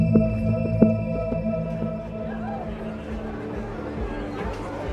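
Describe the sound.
A steady wash of crowd chatter and overlapping voices fills the room, with a low hum underneath and a couple of brief thumps near the start, like a busy, noisy bar.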